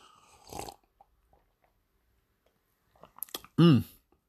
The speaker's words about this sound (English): Maybe I'll have a sip of this shit beer.